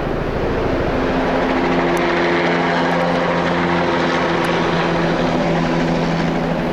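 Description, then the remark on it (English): A helicopter fitted with spray tanks and nozzles roars loudly and steadily overhead as it comes over a mountaintop and hovers, spraying herbicide on the mountain, its rotor thudding in a deep, continuous drone with a faint whine above, no voices present. “You would suddenly hear the thunderous roar, and the helicopter comes up and over the mountaintop and hovers.”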